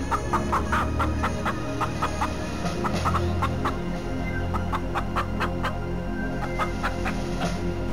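A flock of village chickens clucking steadily with short, repeated calls overlapping throughout, over a constant low background rumble. No one speaks.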